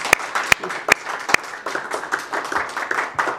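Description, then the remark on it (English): Audience applause that opens with a few sharp, separate claps, then fills out into a steady patter of many hands clapping at a moderate level. “I think we're going to give you some applause.”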